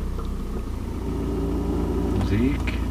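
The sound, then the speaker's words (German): A car engine, just started for a trip to Frankfurt am Main, runs steadily with a low, constant rumble that rises slightly in pitch near the end, as if revving briefly, heard from inside the car. “Hier im Auto sitzen schon Ute Christina und Mohamed Al-Yamus.”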